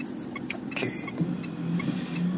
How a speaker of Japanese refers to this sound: 沖縄市のライブハウススラムバーで行われる、デッド・オア・アライブというイベントに俺たちがやってるバンド…が出演するので、そのための練習スタジオに向かう車内で撮っております。